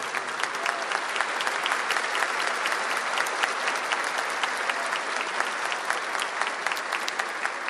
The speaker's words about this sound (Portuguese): Por isso eu queria aqui pedir uma grande salva de palmas para as famílias dos nossos policiais militares que estão se formando aqui. E que vocês possam aplaudir também os familiares de vocês.